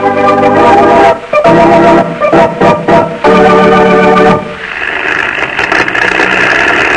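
airplane engine

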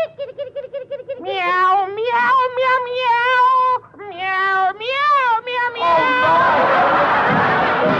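kitten meowing

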